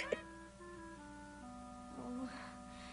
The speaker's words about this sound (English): The worst part about hiccups is waiting for the next one.